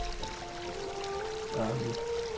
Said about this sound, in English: And I'd just like to stand here and listen to all that water. There's a big theme of that.